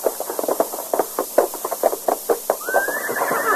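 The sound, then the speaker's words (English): Horse hooves clip-clop in a quick, steady rhythm of sharp knocks, with a rising tonal sound sliding in near the end. No one speaks. “Here's my horse.”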